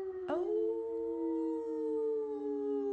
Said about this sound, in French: Mais elle entend un long cri qui se rapproche. Ce sont les loups!